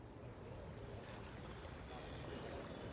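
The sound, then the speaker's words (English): Steady ambience of boats on the Lower Danube, a wide river through the Balkans in southeastern Europe, on an early 5th century day, busy with boats transporting merchants and their cargo: continuous water wash and low rumble, with faint indistinct activity blending into an even, unbroken backdrop. “On this early 5th century day, as on any other, it's busy with boats transporting merchants and their cargo.”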